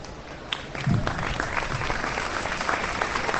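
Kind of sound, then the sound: crowd, crowd applause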